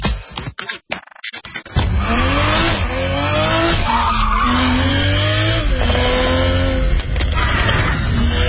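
A few short bursts of engine noise lead into a loud, sustained roar of an all-new Toyota Supra sports car revving, with rising and falling pitch and tires squealing and skidding over it.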